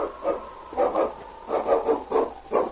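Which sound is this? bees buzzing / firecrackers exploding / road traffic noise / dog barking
dog barking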